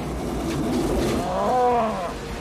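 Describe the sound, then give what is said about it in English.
A cow caught in a tornado gives a drawn-out moo that rises over a loud, steady roar of wind and rumbling noise, lasting about a second before fading back into the storm-like din. “Cow.”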